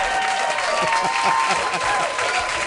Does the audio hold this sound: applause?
yes